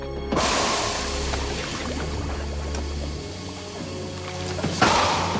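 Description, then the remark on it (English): A freshly forged hot metal blade, heated in a furnace and beaten with a hammer on an anvil, plunges into a bucket of water, setting off a loud, steady sizzling hiss that carries on for several seconds before a second brief splash and surge of hissing near the end. “Plunges the sharp blade into a bucket of water.”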